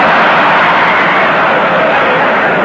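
A propeller airplane engine drones steadily in flight, a loud, continuous roar that holds an even pitch throughout with no voices.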